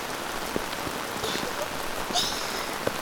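rain falling

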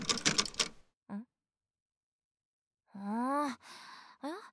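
key rattling

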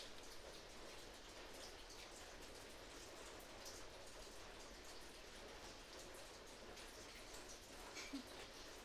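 rain falling

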